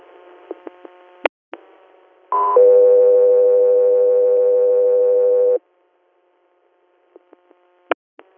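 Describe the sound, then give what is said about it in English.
A few sharp clicks, then a loud, steady electronic radio dispatch alert tone held for about three seconds before cutting off abruptly, followed by more scattered radio clicks and pops. “F3 Air, standby for tones.”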